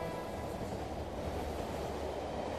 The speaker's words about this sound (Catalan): Vista d'un tren que creua un camp i d'una mar de terrats.